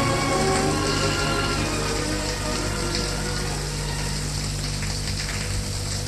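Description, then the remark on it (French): A shower runs steadily in a bathroom, water spraying and pattering on a hard surface in a continuous hiss with a low hum beneath it, no voices present. “En passant devant la salle de bain, il s'arrête, entend le bruit de la douche.”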